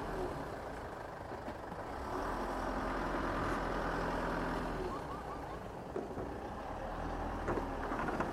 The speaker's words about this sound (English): So it's a bit of a soundscape from New Quay Harbour. Just watching the truck go onto the sand to get his, looks like he's going to get his boat out.